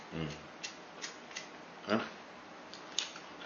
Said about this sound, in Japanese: まあ、お菓子食うてるに、ちょっとポリポリ入ってるかな、今。